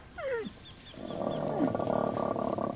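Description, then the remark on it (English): Camels standing in their pen grunt and groan, starting with a short sliding bellow that gives way to a rough, sustained rumbling growl, fairly loud, with no talking. “Now the camels stand in their pen.”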